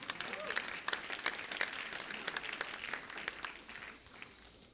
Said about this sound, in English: Bit of clapping's good. Helps me out.